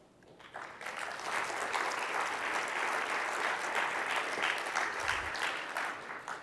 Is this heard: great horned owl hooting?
no